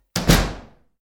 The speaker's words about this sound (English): Oh, someone's left that door open. I'd better close it.